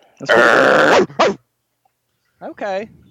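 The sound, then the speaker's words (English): A person imitates a dog barking: a loud, raspy bark with a short second one, then after a pause a tonal, yelping bark with a rising and falling pitch. “The dogs are barking.”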